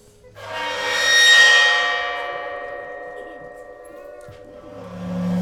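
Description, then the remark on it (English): A cymbal edge bowed with a violin bow, swelling into a shimmering, bell-like metallic drone with high overtones that peaks, slowly fades, then swells again as a voice begins at the end. “And it makes the edge of the cymbal vibrate.”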